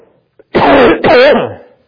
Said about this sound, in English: Sorry about that. I'm learning how to cough into my elbow.